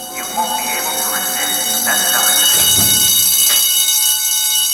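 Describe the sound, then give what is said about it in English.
A loud electric bell rings continuously with a steady, metallic buzz that fills the whole stretch, while faint background voices and shuffling movement murmur underneath. “Therese opens her locker, closes her eyes, and as the bell stops, she takes off her Santa hat and puts it in the small space with her staff handbook.”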